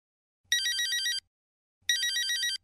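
A telephone rings twice during a returned call, each ring a bright, buzzing electronic trill lasting under a second, separated by a short pause of silence. No voices are present.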